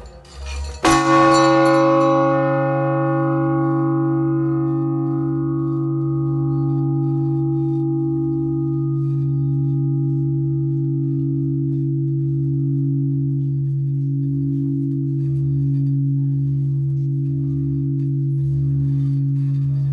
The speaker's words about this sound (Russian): Вы тоже можете послушать звучание колокола и прикоснуться к тому моменту.